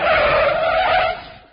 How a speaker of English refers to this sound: Piano drew up with a screech of brakes.